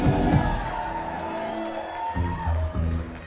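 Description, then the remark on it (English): A crowd claps and cheers steadily for a band for a few seconds, the patter of applause mixed with scattered whoops and raised voices, holding at a fairly even level throughout. “Don't golf clap me.”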